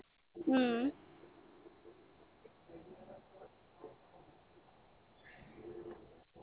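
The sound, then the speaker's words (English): A single loud cooing call from a wild dove or pigeon bursts out near the start, followed by quieter muffled voices and faint background noise. “Yeah, it's a wild bird, so you can't, yeah, it's illegal to keep them, but no, it's illegal.”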